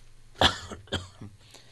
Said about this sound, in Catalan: Per cert, aquí jo volia fer un incís, com, perdoneu la tos, però és que em ve, un segon.